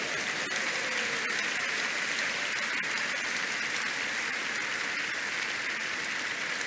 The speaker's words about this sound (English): Rise to your feet. Give the Lord the biggest clap offering, everybody.